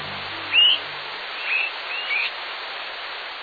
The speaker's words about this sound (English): Listen. Swainson's thrushes are calling to one another while flying at night.